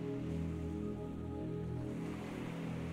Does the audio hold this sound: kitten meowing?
no